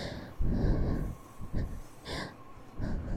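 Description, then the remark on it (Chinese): Four heavy, breathy exhalations in an uneven rhythm, moderately loud, with short quiet gaps between them and no speech. “不要觉得害羞，现在体内的喘息对我来说，这世界上最好听的天籁。”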